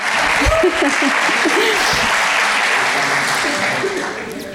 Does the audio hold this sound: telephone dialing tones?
no